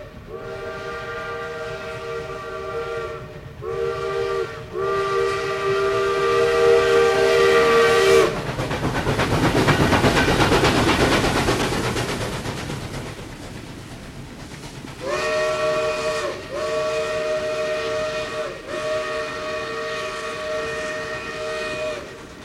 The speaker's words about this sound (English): Let's listen to a train as it passes through the station.